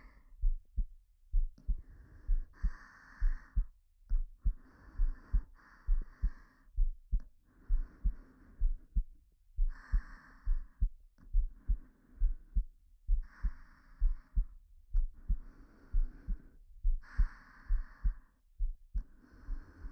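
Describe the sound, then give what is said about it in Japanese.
A steady heartbeat thumps up close, heard as if pressed to a chest, with low regular pulses and soft breathy whooshes between beats, continuing for the whole stretch with no talking. “じゃあ、顔をまた胸に近づけてください。そしたらわかると思うんです、そのドキドキが。”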